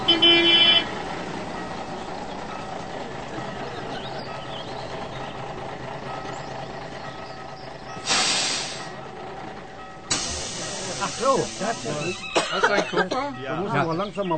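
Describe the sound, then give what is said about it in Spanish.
A bus carrying tourists rumbles steadily, then two loud bursts of air hiss as it comes to a halt, followed by voices chattering at the end. “Turistas intrigados viajan en un autobús a ver esos misteriosos círculos.”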